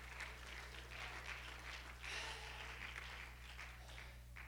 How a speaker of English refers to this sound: Somebody clap your hands, give him praise.